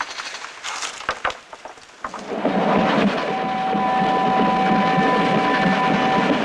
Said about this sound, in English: Daytime. Red flags whipping in the wind. The train hurtles through a snowy forest. Our view reels back and forth as we watch the tracks beneath us.